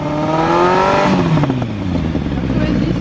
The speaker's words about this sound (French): Pour mesurer cela, ils utilisent un sonomètre qu'ils placent juste derrière le pot d'échappement. Le conducteur doit ensuite monter dans les tours.